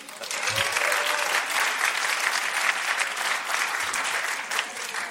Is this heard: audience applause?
yes